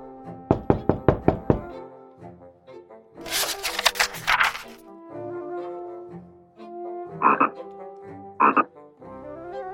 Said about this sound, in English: Then she heard a gentle knock and a voice call out.